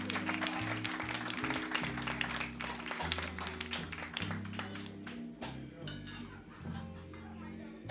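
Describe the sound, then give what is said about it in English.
A crowd applauds steadily for LC, a dense patter of many hands clapping for several seconds, with low sustained music humming beneath it. The clapping thins slightly toward the end. “Let's give LC a big round of applause for doing a tremendous job with us.”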